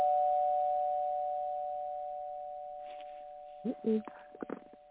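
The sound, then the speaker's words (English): A single bell tone rings out to signal that a speaker's time is up. It sustains steadily and slowly fades over several seconds, while a voice briefly speaks over it near the end. “Ain't that a shame they got a bell to say, stop that Negro from talking all his mess.”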